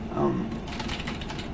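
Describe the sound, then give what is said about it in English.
Quick, light clicks of typing on a computer keyboard patter in a steady burst, following a short murmur of voice at the start, fairly quiet; someone is typing into a text box on a computer platform. “So I'll just do some typing there.”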